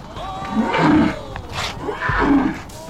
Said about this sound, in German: Oh, sind die laut, die Löwen. Also unsere Löwen machen nie so einen Krach. Oder nur, wenn sie hungrig sind. Vielleicht sind die hier auch hungrig.